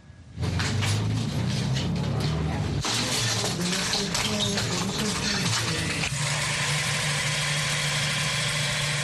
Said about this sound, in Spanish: En este barrio cambiamos el sonido de las balas por el sonido de las máquinas de coser. Este es el sonido que ahora reina en este barrio de Medellín, dejando atrás un pasado violento de 50 años que marcó a Colombia.